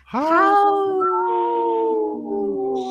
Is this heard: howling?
yes